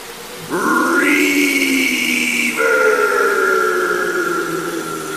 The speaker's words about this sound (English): I'll let you play with the reverb. Listen to all this reverb.